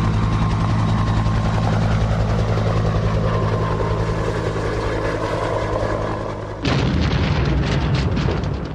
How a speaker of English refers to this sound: A rescue helicopter has crashed. This is again going back to the looks like a Coast Guard type.